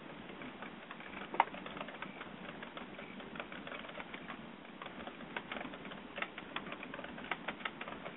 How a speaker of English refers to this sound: I'm typing into Facebook right now because I want to let people know